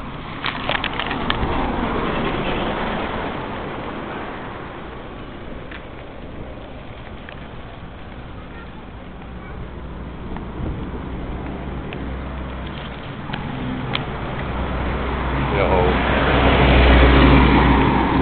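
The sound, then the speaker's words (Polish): A large, noisy American-style garbage truck rumbles with a deep engine drone and scraping, crunching noises. It grows louder and heavier toward the end, with no voices. “Śmieciarka. Duża, taka jak amerykańskie. Duża, hałaśliwa śmieciarka.”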